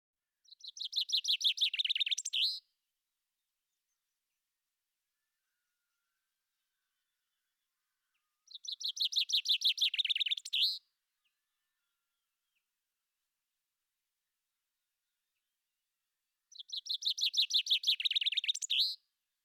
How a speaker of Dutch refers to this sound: de vinken in kleine kooitjes opgesloten zijn en gedwongen worden om zoveel mogelijk liedjes na elkaar te zingen, is in sommige delen van Vlaanderen nog steeds een populair volksvermaak.